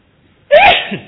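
A single loud sneeze from a monk giving a talk bursts out suddenly after near silence, a sharp breathy explosion that trails off over about half a second.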